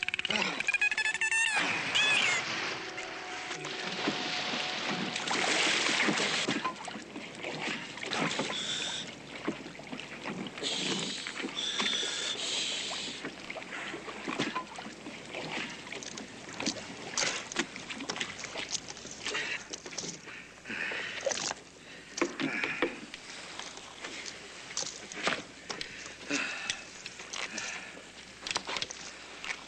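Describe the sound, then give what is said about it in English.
A rowboat glides through water, with steady sloshing and splashing and irregular bursts that suggest oar strokes dipping and pulling throughout. “It is my boat”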